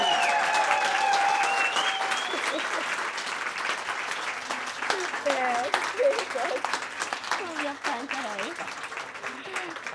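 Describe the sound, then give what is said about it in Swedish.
A crowd applauds an author on his book release day steadily for the full ten seconds, loud and dense, with high whistles early on and excited voices cheering and calling out over the clapping. “En superstor applåd till dig på din release dag.”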